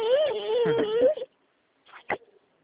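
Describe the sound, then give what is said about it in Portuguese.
A baby who has just woken up fusses with a drawn-out, wavering whine, then goes quiet briefly before letting out a couple of short whimpering bursts. “Eu tô com um neném manhoso aqui.”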